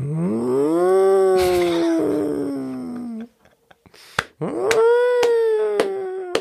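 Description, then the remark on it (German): A person imitates a cat with two long, drawn-out meows, each rising and then slowly sliding down in pitch, loud and sustained, separated by a short pause with a few soft clicks. “Das mit den Katzengeräusche.”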